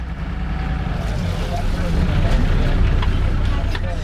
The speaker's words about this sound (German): Nur wenige Minuten braucht das Wassertaxi, um die Maas zu überqueren und auf Katendrecht anzulegen. Einer Landzunge im Süden von Rotterdam.